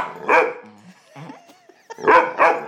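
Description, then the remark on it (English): Two dogs, one named Niall, having a mock argument over a tug toy, barking at each other: three sharp, loud barks, the first alone and the last two in quick succession, with quieter low growling and whining in the pause between. No one speaks. “They're having an argument now. The 2 dogs are having an argument.”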